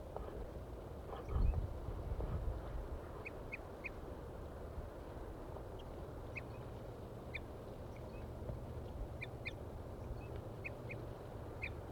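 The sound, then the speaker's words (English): A pair of crossbills, male and female, give short, high toop calls from the top of a deciduous tree about 50 to 60 meters away, often in quick pairs or triplets at irregular intervals, fairly faint over a steady low rumble, with a brief thump near the start. “The birds are still up in the trees tooping.”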